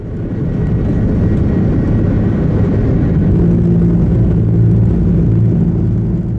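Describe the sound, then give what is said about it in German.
The jet engine of an Airbus airliner roars loudly at nearly full thrust during takeoff, a dense steady rumble heavy in the low end; after a bird strike damages it, a rough droning hum rises and wavers in pitch as the engine vibrates strongly but keeps running. “Stattdessen verändert sich gut hörbar der Ton, den das Triebwerk macht, und es fängt ziemlich stark an zu vibrieren.”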